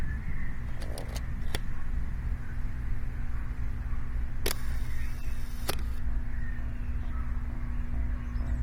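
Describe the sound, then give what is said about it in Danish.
A few sharp mechanical clicks as a man lifts a camera from a windowsill overlooking a fjord, like a shutter and handling, against a steady low traffic rumble, with a brief rustling burst midway. Nobody speaks. “Nu løfter manden noget, der ligner et kamera, op fra vindueskarmen.”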